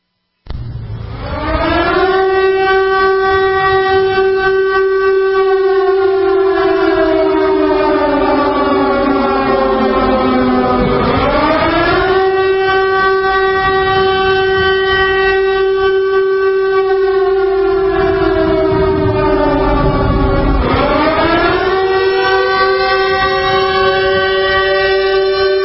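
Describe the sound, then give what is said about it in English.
A loud, sustained siren blares on its own, its rich tone slowly sinking and then swooping back up in long wailing cycles roughly every ten seconds, with no voices. “Letting this siren play for a minute here.”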